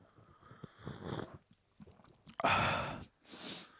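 A few airy slurps of hot, peach-scented white tea (China Pai Mutan), with one long loud slurp near the end followed by a soft breathy exhale; no talking.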